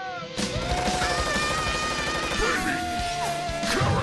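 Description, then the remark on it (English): Cannon blasts boom loudly over a driving, dramatic music score in an advertisement for baby carrots, in which carrots shoot from a cannon, with a heavy burst at the start and more crashing impacts near the end. No one speaks. “In this ad, carrots shoot from a cannon.”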